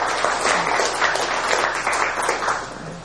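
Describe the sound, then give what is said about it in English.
A crowd applauds the organizers and sponsors of a meeting, many hands clapping in a dense, even patter that stays loud throughout with no voices breaking through. “Well, I'd like to start out by asking everyone to join me in a round of applause and thanks for the organizers and the sponsors for this meeting.”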